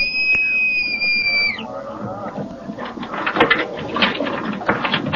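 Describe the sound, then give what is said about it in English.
A bosun's pipe sounds one long, steady, shrill whistle for about a second and a half as the bosun pipes the rowboat, sliding down in pitch as it ends, followed by a busy, noisy background. “Bosun, pipe the boat.”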